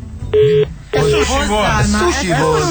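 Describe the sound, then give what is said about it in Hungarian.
A short electronic telephone keypad tone beeps once, loud, then a man starts talking right away, with a brief second beep blending in just as his voice begins. “Mindig elsőre felveszitek a telefont.”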